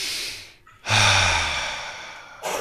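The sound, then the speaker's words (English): A deep, airy breath in during a breathing exercise, a brief pause, then a long, loud exhale with a low rumble, followed by the start of another breath, with no talking. “So just clear your space, take a breath in and take a breath out.”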